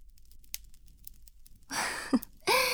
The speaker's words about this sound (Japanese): そんなに慌てなくても、少し息をかけてやっただけだろう。